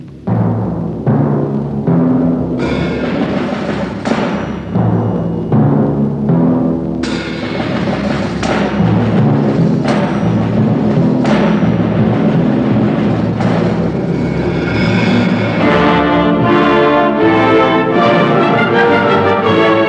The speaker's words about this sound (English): Banging instruments, the percussion.